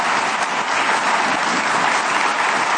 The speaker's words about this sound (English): And this weekend, we have an opportunity. That's worth applauding for. Go ahead. You know, it is.